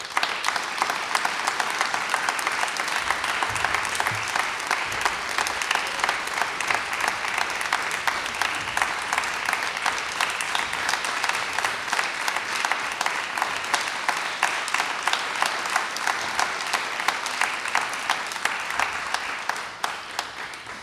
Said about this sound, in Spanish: Recibimos con un aplauso muy fuerte al …, a … aquí en el escenario de nuestro auditorio en Radio Nacional.